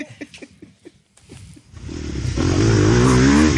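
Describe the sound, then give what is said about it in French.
A motocross bike chugs with a few sputtering pops at idle, then the engine revs up into a loud, rising, buzzing roar that holds steady to the end. “Et on est toujours en motocross.”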